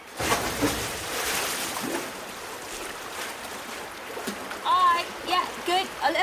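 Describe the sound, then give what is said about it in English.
A sustained, fairly loud watery rush of splashing, like something plunging and churning into water, lasting several seconds before voices briefly cut in near the end. “Okay, Strawberry Band, into the water.”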